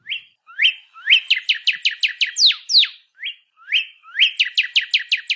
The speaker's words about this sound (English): the northern cardinal. The songbird has been calling Hawaii home since the early 20th century, so you're probably already familiar with its call